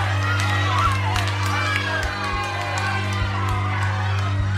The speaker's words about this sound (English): People are throwing bricks and objects at the house, breaking windows and stuff like that. There's heckling, there's shouting. So clearly that crowd wasn't exactly happy to see Jemima Wilkinson come into town.